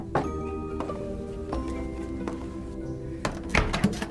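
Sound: knocking on a door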